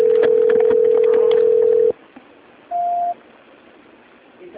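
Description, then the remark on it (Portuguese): A telephone ringback tone on an outgoing call during a call transfer: a loud, steady low-pitched hum lasting about two seconds, then a quiet line and one short, higher beep. No one speaks. “tá chamando.”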